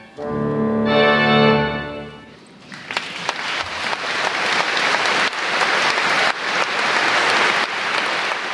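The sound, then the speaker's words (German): A sustained final musical chord rings out and stops, then loud, dense applause from a large audience in a full church breaks out and continues steadily to the end. “Und schliesst, 50 Minuten später, die Episode mit einem musikalischen Feuerwerk und einem Applaus von einem dankbaren Publikum ab.”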